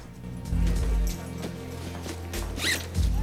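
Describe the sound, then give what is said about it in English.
A sports bag zipper is pulled open in a bus station in a few quick, rasping strokes, fairly loud, over a low steady hum of background noise. “Having opened it, he takes hold of a gun and checks the clip.”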